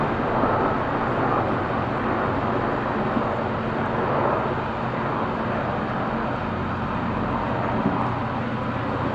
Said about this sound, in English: let me wait just a second, the helicopter goes over.